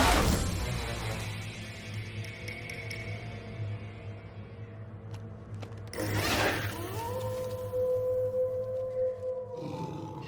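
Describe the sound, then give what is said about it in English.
A single long timber wolf howl rises and then holds a steady, drawn-out tone for a few seconds, fairly loud over a low, rumbling background drone. “I turned, and there before me stood the timber wolf.”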